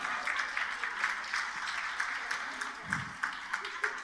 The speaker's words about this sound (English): So one heard one woman clapping.